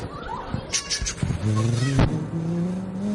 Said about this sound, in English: I don't know what the train sounds like, but I'm hoping that's what it sounds like, right?